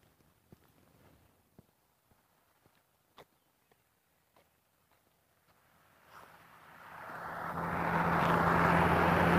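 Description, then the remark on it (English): Scattered footsteps crunch along at a back gate for several seconds, then a truck rumbles in as it drives by, its broad engine roar swelling steadily until it fills the end, loud. “This truck to go by.”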